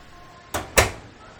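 An oven door shuts with two quick clunks, a lighter knock followed a beat later by a heavier thud, as corn is put in to cook, over a quiet background with no talking.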